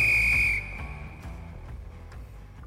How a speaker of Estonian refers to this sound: Lõpuvilega saab jalgpallis otsa hikivalamine ja algab kolmas poolaeg.